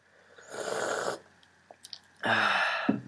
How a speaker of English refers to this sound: Don't worry, that's just because I'm sipping on some tea.